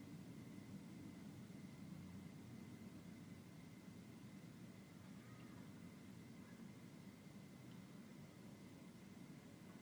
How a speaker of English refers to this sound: Hear the plane going overhead. Notice the silence of your being. Remains untouched by the sound.